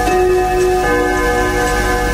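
clock ticking

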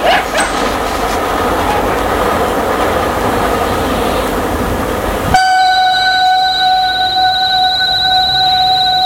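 train passing overhead

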